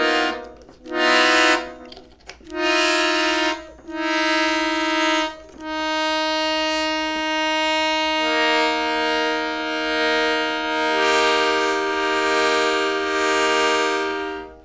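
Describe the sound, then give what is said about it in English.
Several short, loud blasts of a dense, dissonant chord from a stop-driven organ-like instrument played with a bunch of random stops open, then a long sustained chord that thickens halfway through, blaring like a train horn. “Or you can open up a bunch of random stops that are... Let's see what happens. And then it sounds like a train horn.”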